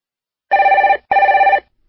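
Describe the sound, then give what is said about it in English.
A telephone rings twice in a classic double burst for a call from Nelson to Southern Rental Car, each ring a bright warbling trill lasting about half a second, loud, with a short pause between them and no voices. “I'm ringing from Nelson, but I'm coming over to Auckland for 12 days and I'd like to hire a car.”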